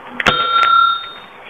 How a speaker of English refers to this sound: you hear the bell, turn the page.